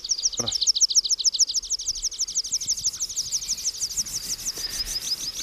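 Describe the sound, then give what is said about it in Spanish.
A pipit calls in open steppe fields in a rapid, steady series of thin, high-pitched chirps that run continuously for several seconds, clear over a faint background. “Y en las estepas también, en los campos abiertos, abundan las sutilezas porque tenemos al bisbita, que está bisbiseando.”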